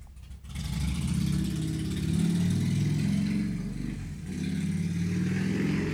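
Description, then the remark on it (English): A loud motorcycle engine revs, its deep growl rising and falling in pitch for several seconds, with a brief dip before roaring again. A man is on the motorcycle. No one speaks. “That guy on a motorcycle, Houston Fortney, it's so loud”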